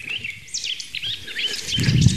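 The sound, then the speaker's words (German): A song thrush sings, a run of bright, varied whistled phrases and trills, with a soft rustling noise rising underneath toward the end. “Singdrossel. Ah, die hat bis zu 100 Motive, imitiert auch sehr viel.”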